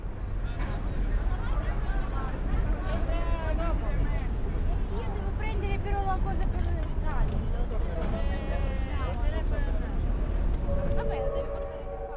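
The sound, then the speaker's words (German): A ferry from the islands, moored in a harbor with its stern to the pier, unloads people, cars and trucks: a steady, loud low engine rumble with indistinct crowd voices murmuring throughout, and a sustained tonal hum rising near the end. “Da steht sie also, die Fähre, festgezurrt im Hafen, Heck zum Pier, entlädt die Menschen, die Autos, die Lastwagen.”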